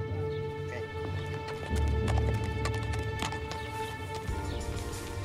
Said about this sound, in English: David and Shannon then mounted their horses and left.